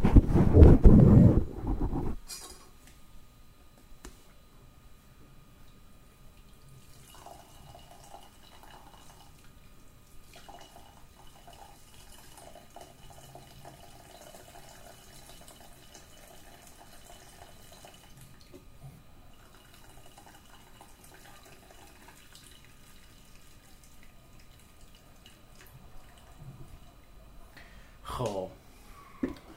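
Meat broth is poured slowly from a pot, its lid held slightly open to keep the other ingredients in, through a strainer into a second pot in a loud splashing rush lasting about two seconds, followed by quiet kitchen rustling and faint background sounds.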